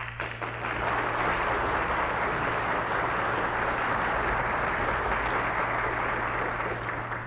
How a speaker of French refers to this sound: Je suis content de ces applaudissements, car vous les entendrez tous deux dans quelques minutes.